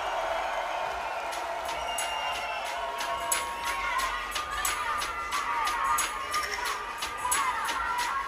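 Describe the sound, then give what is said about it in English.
An audience at a live band's set claps and cheers for about eight seconds: a steady wash of many hands clapping, with sharper individual claps and scattered whoops and voices rising through it. “We've got a couple tunes left, but first of all, please make some applause for the Captain Bass, the Woodlook, and me, myself, the Primate.”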